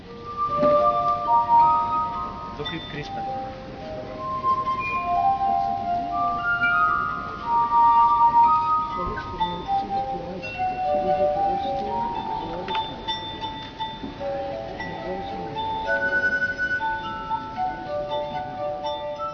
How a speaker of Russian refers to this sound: Здесь подолгу медитируют за бокалом вина и исполняют музыку на винных бокалах. Для этой цели более подходящим признан Йоганн Штраус сын.